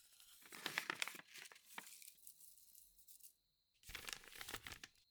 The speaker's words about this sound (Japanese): それで次は炭が炊けるまでにこちらの準備です。柑橘系の香りのついたタバコの葉をこちらの小さい容器に乗せていきます。